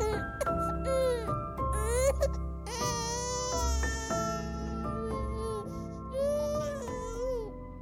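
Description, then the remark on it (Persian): A baby cries loudly and shrilly in repeated wailing bursts with rising and falling pitch, continuous and unceasing, over a faint steady tonal background; the crying comes from the neighbouring apartment. “صدای گریه می آمد. گریه گوشخراش و سرسام‌آور بچه ای از آپارتمان بغلی که 1,000,000 ساعت بود بیوقفه ادامه داشت.”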